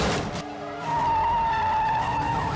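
A burst of harsh noise as a sheriff's deputy's car rams a suspect car on a highway exit ramp, knocking it out, gives way to a long, steady, high-pitched tire squeal as a car skids, with a low engine rumble underneath. No one speaks.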